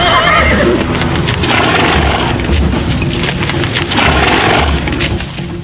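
A horse neighs loudly, its whinny rising over a steady wash of hoofbeats and rough, clattering noise that fills the whole stretch without pause, as a woman is swept up and thrown onto the horse and two riders sit on it.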